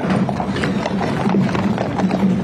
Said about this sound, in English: A horse-drawn caisson carrying former President Jimmy Carter's casket has just arrived at the Capitol.